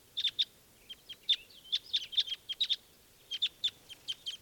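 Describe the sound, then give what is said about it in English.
A bright red male bird in a flock sings a steady run of sharp, high-pitched chirps, delivered in quick pairs and clusters with brief pauses between, clear and fairly loud with no talking. “One really bright red male there is singing, and that's him giving the flock.”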